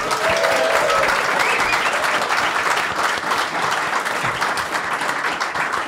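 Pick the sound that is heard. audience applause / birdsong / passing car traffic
audience applause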